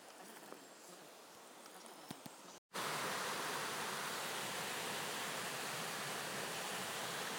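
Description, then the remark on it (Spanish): Rushing river water roars steadily, a dense unbroken wash of sound, where the Quirós and Teberga rivers meet and flow down toward Probaza. It follows a brief quieter stretch of flow with faint clicks, then an abrupt cut. “Pues esta es la unión del río Quirós con el río Teberga y bajan hacia Probaza.”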